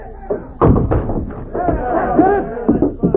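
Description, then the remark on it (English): A battering ram slams into a door again and again, heavy booming thuds at an uneven pace, while a group of men shout and chatter over the blows as they try to push the door in. “Bring up that battering ram. Stand back here so we can smash her against the door.”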